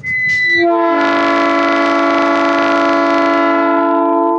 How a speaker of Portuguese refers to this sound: Hoje o Desenvolve Aí acompanha de perto um momento histórico. A chegada do trem teste com carregamento de calcário, saindo do Ouricuri, em Pernambuco, com destino aqui, Bela Vista do Piauí.